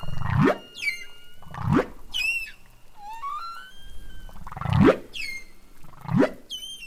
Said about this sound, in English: So each humpback whale is kind of like its own symphony? Well, what's really interesting is that all the males within a population will be singing the same song at the same time. So they match each other.